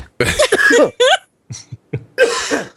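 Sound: coughing fit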